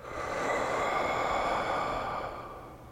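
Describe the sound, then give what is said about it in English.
One long, steady exhale of breath through the mouth, airy, swelling gently and then tapering off over a few seconds, with no talking, during a relaxation breathing exercise. “Breathing out.”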